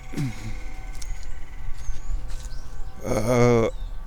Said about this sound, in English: And what's that sound? Oh, it's that squirrel over there.